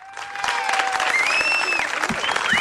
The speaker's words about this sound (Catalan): Fareu un aplaudiment molt fort o no?